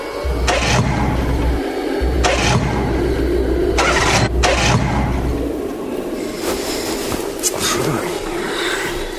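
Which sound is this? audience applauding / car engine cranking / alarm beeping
car engine cranking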